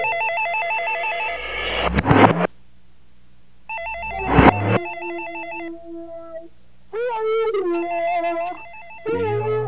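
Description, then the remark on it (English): A plastic telephone in a kitchen rings in repeated loud electronic warbling bursts, several rings separated by short pauses, clear with no one speaking. “I walk into the kitchen and I stare blankly at that shrieking plastic bastard. Since it keeps ringing, I know it's her.”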